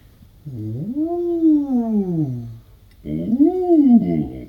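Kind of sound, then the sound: vocal imitation, voice imitating a siren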